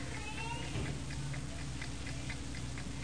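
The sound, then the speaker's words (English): An alarm clock ticks steadily in a quick, even rhythm, the light clicks sitting over a constant low background hum with no one speaking. “You hear the tickings of this clock?”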